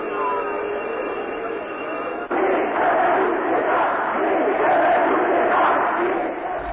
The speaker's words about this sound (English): The people are booing of their own free will, without a bit of police action being taken, away from the square. They're clapping, they're shouting.